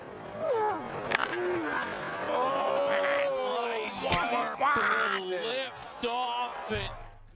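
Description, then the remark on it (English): A man, doubled over after attempting to put on a golf shoe, groans in pain, letting out a string of loud, drawn-out moans whose pitch bends and wavers, broken by a few sharper strained cries, captured by surveillance cameras. “that sounds terrible. No wonder you're in so much pain.”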